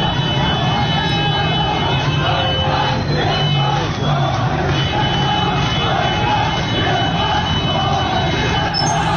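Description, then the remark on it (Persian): A large street protest crowd of residents in the Ein-Do area of Ahvaz, Iran, chants and shouts nonstop against the handling of flooding and water not being directed to the Hoor al-Azim wetland, many voices merging into a loud, dense roar that holds steady from start to finish. “گروهی از شهروندان منطقه عین دو در اهواز در اعتراض به اون چه اونها عدم رسیدگی به وضعیت سیل و هدایت نشدن آب به سمت تالاب هورالعظیم خوندن، دست به تظاهرات زدن.”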